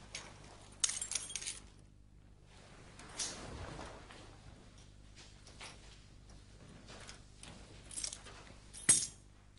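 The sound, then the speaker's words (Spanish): House keys jangle in scattered bursts of bright metallic clinking, fairly soft, with short pauses between shakes and a sharper final jingle near the end. “Son las llaves de la casa.”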